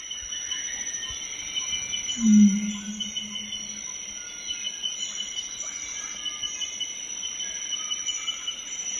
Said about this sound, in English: Well, first of all, we're hearing all these night orthopterans. They're the grasshopper cricket-like calling in the background, and you hear the first birds making plenty of noise as well.